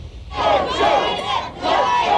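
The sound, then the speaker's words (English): Dozens of Biden and Trump supporters at a closed-to-the-public Biden campaign event in Wisconsin shout and jeer in loud, overlapping waves of voices, with one brief lull midway before the chanting and yelling swell again. “Dozens of Biden and Trump supporters showed up to cheer, or jeer, his closed to the public event in Wisconsin.”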